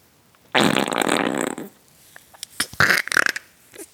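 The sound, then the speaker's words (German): A loud, drawn-out rasping grunt made with the mouth, lasting about a second, followed by a series of shorter, choppy guttural grunts and snorts. “Ich kann euch beruhigen, die Grunzer kamen aus meinem Mund, nicht aus anderen Körperöffnungen.”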